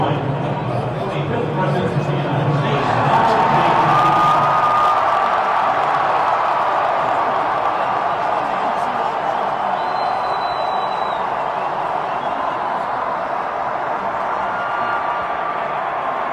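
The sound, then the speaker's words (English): A large stadium crowd at a Georgia-Alabama football game roars and cheers continuously after the public address announces that Donald Trump is in attendance, a dense, loud wall of voices with shouts and whoops rising out of it, sustained without a break for the whole stretch. “This is how the crowd reacted when the stadium public address announced that he was in attendance.”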